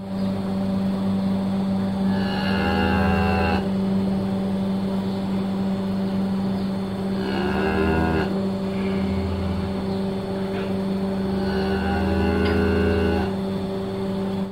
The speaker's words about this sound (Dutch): Ja, met dit geluid ben ik echt heel erg blij. Dit is het geluid van een koe die groet op het moment dat een mens de stal binnenkomt. Ja, precies. Dus een mens of een bekend mens,